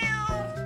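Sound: cat meowing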